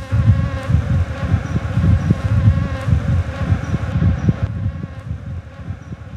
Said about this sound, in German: Genau, das sind Bienen. Und zwar besondere Bienen. Wildbienen. Von den über 500 Arten in Deutschland ist über die Hälfte auf der roten Liste der bedrohten Tierarten.